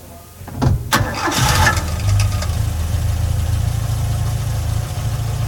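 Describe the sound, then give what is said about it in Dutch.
A vintage car engine cranks and catches, then settles into a steady, low rumbling idle, with a faint metallic clatter running through it. “Dat loopt helemaal niet verkeerd. Zeker voor een auto uit die tijd niet.”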